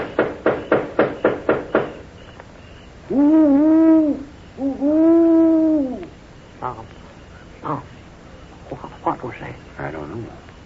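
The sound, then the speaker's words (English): A quick run of sharp knocks gives way to two long, loud, wavering owl hoots, followed by scattered faint rustles and soft sounds. “More likely just an owl.”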